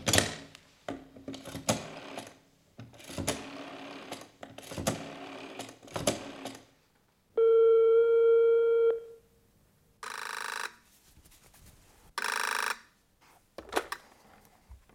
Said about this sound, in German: Hier ist das Telefon. Rufen Sie ihn gleich an.